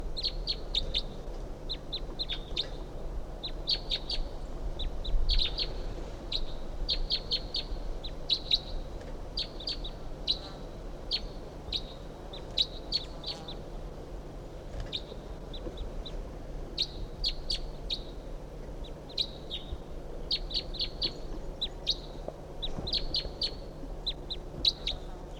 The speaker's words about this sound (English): That bird's about 50 yards off in the top of us, medium-sized ponderosa pine.